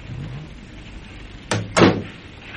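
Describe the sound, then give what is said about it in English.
A police car idles faintly, then two car doors slam shut in quick succession, sharp, with a quiet outdoor background and no talking. “Now, whose car's that? It's not some damn sightseer. It looks to me like a police car.”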